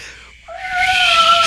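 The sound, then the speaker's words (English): A harsh, drawn-out creature howl, a single sustained yowl that swells in loudness and holds a steady, strained pitch, heard alone without any talking. “It begins to howl and make a vicious noise.”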